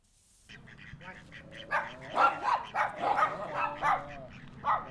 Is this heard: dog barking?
yes